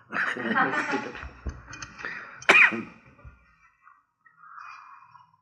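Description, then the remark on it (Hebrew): A man coughs harshly several times, with a sharp, loud burst near the middle, then clears his throat more softly as it trails off. “עכשיו אני מבין למה אני משתעל ככה.”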